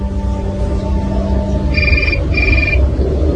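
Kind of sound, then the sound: signal or alarm, mobile phone ringing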